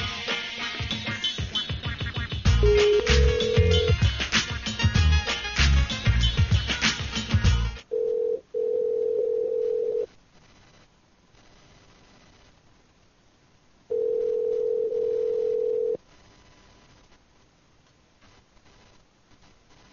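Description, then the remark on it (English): Ringback tone from an outgoing prank phone call: a steady mid-pitched tone sounds for about two seconds, stops for several seconds, then returns. Dense clattering noise comes first, and nobody speaks. “It's just a series of beeps.”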